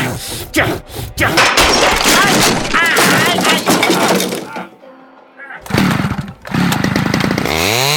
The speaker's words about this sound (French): Chérie, s'il te plaît, lâche cette tronçonneuse, tu vas te faire mal.